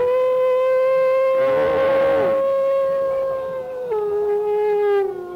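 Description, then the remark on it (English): A dog lets out one long, loud howl, holding a steady pitch for several seconds before sliding a little lower near the end. No one speaks over it. “Come here, little dog.”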